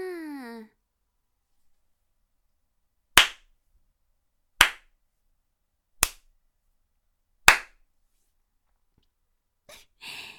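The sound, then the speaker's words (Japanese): A woman claps her hands four times, sharp and loud, at an even, unhurried pace, about one and a half seconds apart, with silence between them. A brief voice sounds just before the first clap. “あたし手叩いてるだけだけど、どうしてそんな顔しちゃうのかな。”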